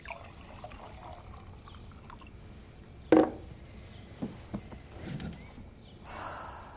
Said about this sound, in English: She shakes a green smoothie, picks out a wine glass from the shelf, and goes to the counter. She pops the lid, pours herself a glass, and sits down.